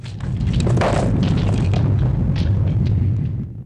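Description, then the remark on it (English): A giant stone figure tips forwards and the stone block it supports topples down as columns collapse during a volcanic tremor: a continuous rumbling roar with deep booming thuds and scattered cracks of breaking masonry through nearly four seconds before fading at the end. “A giant stone figure tips forwards. The block of stone it's supporting topples down.”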